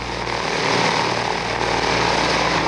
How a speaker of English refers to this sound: Look at the size of that aircraft carrier. Yeah, and the planes are just about to take off.